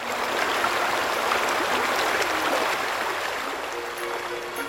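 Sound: flowing river water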